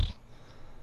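A single short fart, a low breathy blurt lasting only a split second, followed by near silence with a faint hiss.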